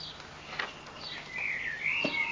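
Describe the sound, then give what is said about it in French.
A sparrow chirps in short, bright tweets that run into a longer warbling trill toward the end, clear over a faint background hiss. “Cui-cui-cui. Ce n'est pas moi, répond le moineau.”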